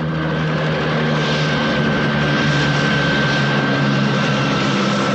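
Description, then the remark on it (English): A helicopter lands nearby, its engine and rotors making a loud, steady roar that fills the whole stretch without letting up. There is no talking. “Mike watches Webb's helicopter land nearby.”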